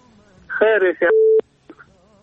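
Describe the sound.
A telephone disconnect tone after a caller to a phone-in program hangs up: a brief burst of voice on the line, then one steady mid-pitched beep lasting about a third of a second that cuts off abruptly.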